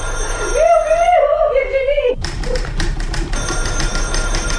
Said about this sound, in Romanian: Telefonul, domnișoara Alice, telefonul.